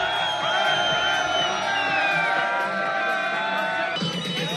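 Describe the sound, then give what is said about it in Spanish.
A noisy crowd partying outdoors at night in Barcelona, in areas such as the Born or Barceloneta beach, after the end of the state of alarm. Many overlapping voices shout, whoop and cheer in a steady, loud din throughout, and a few high yells rise above the mass of chatter. “Pues es el sonido que se viene repitiendo desde hace ya unos cuantos fines de semana, desde que terminó el estado de alarma en zonas como el Born o también en la playa de la Barceloneta.”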